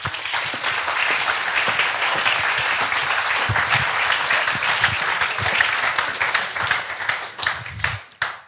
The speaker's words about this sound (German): Alma Deutscher, das ist Ihr Applaus.